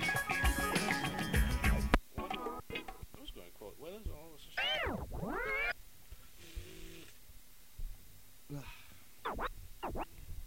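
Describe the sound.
A person mimics a cat with a few drawn-out, rising and falling meows, right after a short burst of loud music, with some voice-like sounds between them.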